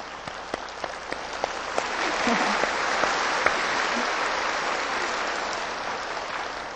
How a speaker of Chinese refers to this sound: 我拍手，因为恭喜你们的聪明度啊，这么快开悟啊，